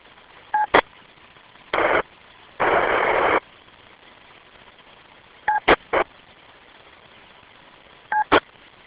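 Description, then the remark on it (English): Short DTMF touch-tone dialing beeps and dial tones sound in a few scattered groups over a constant radio hiss, broken up by louder bursts of harsh static, one lasting nearly a second, as a phone patch is attempted through a radio repeater. No one speaks. “It was just interesting hearing the DTMF and the dial tones.”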